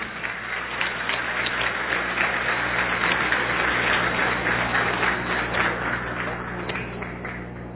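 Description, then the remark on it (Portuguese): Sustained applause from a crowd as vice-governor Rodrigo Garcia hands over a food-basket voucher from the Alimento Solidário programme for the municipality of Monte Alto, a dense, steady wash of many hands clapping at once for several seconds, with faint background murmur underneath. “Pode aplaudir.”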